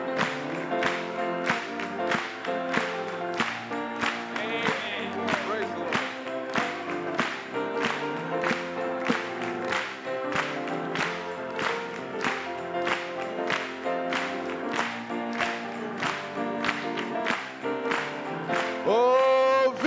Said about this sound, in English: Let's clap it to Him.